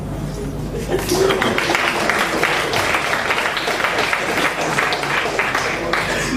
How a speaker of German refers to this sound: Ein Applaus für William.